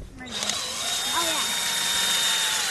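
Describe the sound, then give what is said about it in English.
A power drill runs steadily, boring through tree bark to reach the sap-carrying phloem layer beneath, with a continuous high whine and gritty grinding noise, while faint voices murmur underneath. “They drill through the bark to get to the layer underneath.”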